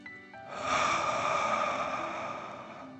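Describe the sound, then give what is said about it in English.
A single long, deep breath, drawn in through the nose and let out through the mouth, a steady airy rush lasting a couple of seconds, with no talking. “Again, breathe in through your nose and out through your mouth, pretending you're breathing fire. Deep breath in and out.”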